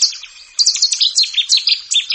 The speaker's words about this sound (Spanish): Un ruiseñor cercano o un cuco a lo lejos. Los carrizas trinan más atrás, junto a pinzones y verdecillos.